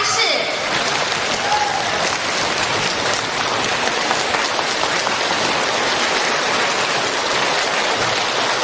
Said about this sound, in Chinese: 现在慈悲的卢军宏台长将为我们开示，让我们用最热烈的掌声恭请我们尊敬的卢军宏台长为我们慈悲。